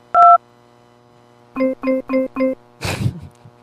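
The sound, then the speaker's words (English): A single phone keypad beep, a short pause, then four quick, evenly spaced keypad tones as a call is transferred to the Hilton Toronto hotel, ending with a brief rough burst of noise like a handset clunk. No one speaks. “There, I transferred him to a Hilton.”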